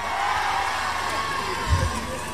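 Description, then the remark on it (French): A large concert audience cheers and applauds the band's musicians during guitar changes, in a steady, dense roar of clapping and shouts, with a brief low thump near the end. “Alors je vais vous demander le temps de faire des changements de guitare, tout ça, d'applaudir mes musiciens.”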